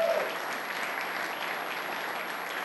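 A room full of people claps steadily, a dense wash of applause that holds at an even level throughout without anyone speaking over it.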